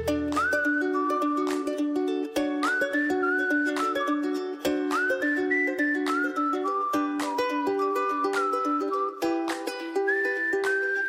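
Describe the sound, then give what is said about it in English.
Someone whistles a bright, wavering melody with the tongue, clear, hopping between notes in quick phrases with short breathy attacks, continuing steadily with no talking. “That's right, there are three easy ways to whistle with your tongue.”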